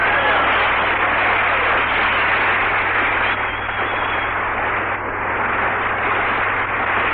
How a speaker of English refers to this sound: Hi, you fellas. Clap them hands. Stir up some air. It's hot in here.